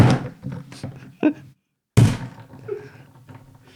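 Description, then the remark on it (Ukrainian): A Nokia phone is banged down to crack nuts: a few hard thumps with a brief crunching rattle, separated by a short pause of silence. “Зараз ми зрозуміємо, горіхокол це чи ні. Нам потрібно горіхи та Nokia.”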